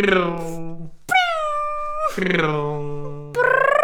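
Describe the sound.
A voice imitates a car taking a turn with a series of sustained, whining tones that bend in pitch like squealing tires, each separated by a brief break, fairly loud.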